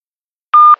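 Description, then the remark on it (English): A single steady electronic beep from an answering machine, loud, holding one pitch for about a quarter second after silence, then cutting off into faint line noise, signalling to record a message. “A message on an answer phone.”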